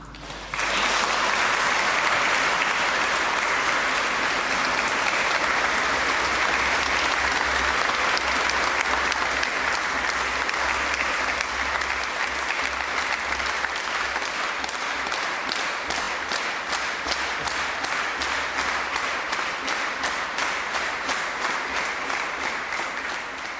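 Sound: pilgrims applauding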